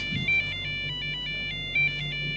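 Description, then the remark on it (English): A thin electronic ringtone-style melody of quick, bright beeping notes in a hopping pattern, trying to play a song, over a low steady hum. “I still don't hear … in that tune.”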